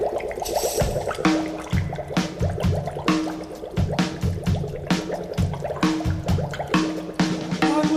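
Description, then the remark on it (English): Continuous bubbling and gurgling of a studio sound effect for a boiling cauldron, made by blowing through a straw into a glass of water, bursting in a busy, fairly loud rhythmic churn with no one talking. “Oh, and the boiling cauldron was just some studio guy with a straw and a glass of water.”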